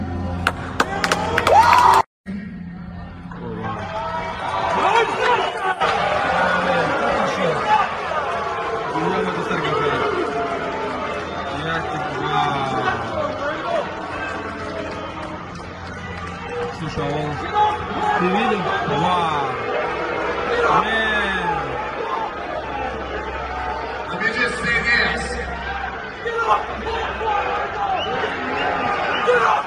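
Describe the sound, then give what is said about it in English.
A crowd of men at a men's Christian conference yelling and screaming over one another, a dense, continuous roar of raised voices with shouted, wavering pitches that stays loud for the whole stretch after a brief cut near the start. “And you can hear the men start yelling and screaming.”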